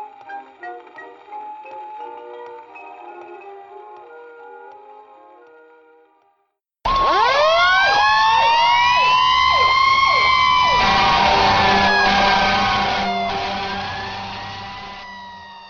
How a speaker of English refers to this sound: When you hear those sirens, do you say to yourself, "Wish I could do that"?